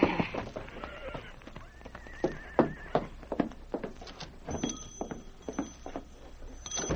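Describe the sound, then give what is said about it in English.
A horse named Sandy whinnies with a high, wavering neigh while its hooves clop in a steady, uneven rhythm of sharp knocks as it is ridden into town and pulled to a stop in front of the general store, the clopping continuing throughout with brief tonal whinny sounds over it. “I'll get my horse and start out right away”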